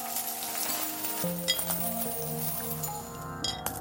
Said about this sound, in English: The sound he was hearing was from coins forming a pile on the worn carpet in front of the counter.